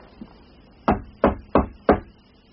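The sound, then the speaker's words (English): Four firm knocks on a door in a steady, even rhythm, each a solid dull thud, with no voices around them. “I'll give him another knock.”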